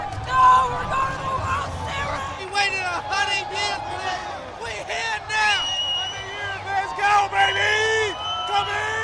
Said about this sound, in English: was in a sea of people celebrating, dancing, and cheering.